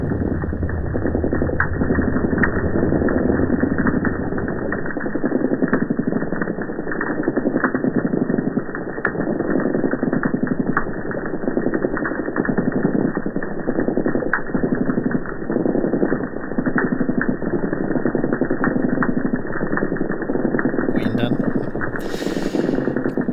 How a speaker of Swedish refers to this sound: Här är en inspelning av en korpfiskkör i Medelhavet.